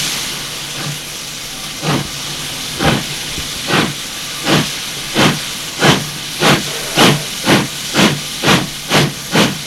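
A steam locomotive pulls away with loud, rhythmic chuffs of hissing steam that start slow and quicken steadily, each puff a sharp burst over a constant background hiss.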